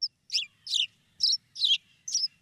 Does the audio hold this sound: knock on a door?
no